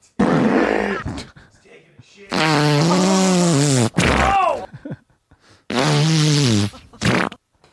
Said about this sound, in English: You didn't miss much because you heard all the ways that I could be farting.